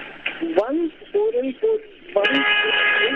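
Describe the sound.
Car horns honk over a phone-quality line: several short tonal blasts early on, then a long steady honk that runs to the end, with a voice mixed in underneath.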